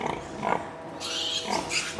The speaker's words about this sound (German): Dieses Ferkel hat sich unter dem Bein hindurchgezwängt und strebt zielstrebig einer der 16 Zitzen zu. Einige stoßen ihre langen Rüssel ins Gesäuge. Die Sau beginnt rhythmisch zu grunzen.